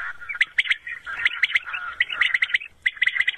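Rapid, repeating bird chirps and twittering calls played loudly at night from an illegal electronic decoy lure used by poachers in Serbia to attract quail, deceiving birds within 2 km; a steady looping song with sharp bright notes and no voices.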